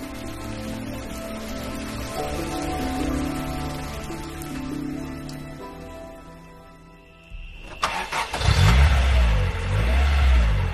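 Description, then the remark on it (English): A vehicle engine hums steadily while driving around an 11,000-acre rural farm property in southeast Queensland, then grows louder and rougher, with a broad rumbling, rattling roar and a patter like rain or gravel on the body, with no talking. “I'm here with Brent, 5 years after that drought, driving around on his 11,000-acre property in southeast Queensland”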